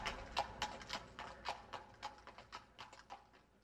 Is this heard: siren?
no